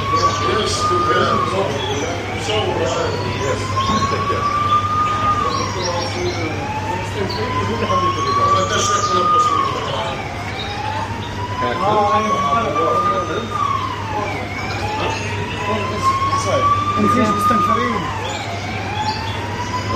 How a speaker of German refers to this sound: Man hat am Anfang nur sehr laute Sirenen gehört.